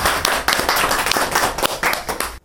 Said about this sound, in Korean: 그래서 먼저 지난 3년간 남편분의 회복을 내조해 오신 미세스 학교에서 내 가정의 회복 소감을 한번 여러 그 우리 회복 동료들한테 해주시면 조금 감사하겠습니다. 박수 환영합시다.